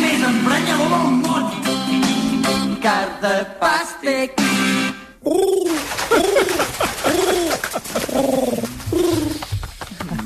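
A pigeon coos over and over, loud, its soft rolling calls rising and falling in a steady series of throaty phrases.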